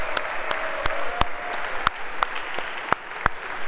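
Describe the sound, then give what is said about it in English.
Scattered audience applause for the winning guest of a quiz: a dozen or so sharp, crisp claps at an uneven, unhurried pace over a steady hiss of background noise, with no voices. “A big round of applause for our guest.”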